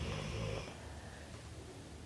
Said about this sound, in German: Ja, und das, was du im Hintergrund hörst, ist nicht das Knurren vom Wolf, sondern das Schnarchen von unserem Hund, die schon ganz entspannt da liegt, weil sie weiß, da geht keine Gefahr aus.